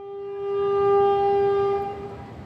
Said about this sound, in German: 9 Stunden dauert die Fahrt mit dem Zug vom Westen in den Osten des Landes durch die idyllische Insel, die in Form einer Träne im Indischen Ozean liegt.